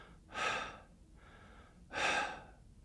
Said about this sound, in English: And I looked over thinking, is there something wrong? And I thought, no, he's just sitting there breathing normally. But it wasn't normal breathing. It was labored breathing.